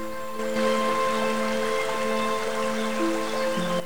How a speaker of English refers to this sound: She makes her way through the tall grass and over to a waterfall gently rippling over a cluster of rocks.